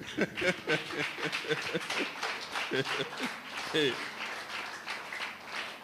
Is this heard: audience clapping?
yes